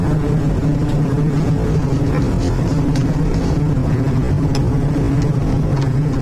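A steady, low engine rumble drones continuously, like a car rolling along at an even pace, with a dense hum and faint mechanical ticks layered on top throughout.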